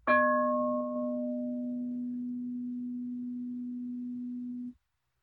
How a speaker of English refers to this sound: I presume most people found the bell is a pleasant sound. Right? Just, that's all there is. You know it's a bell, you know it's coming.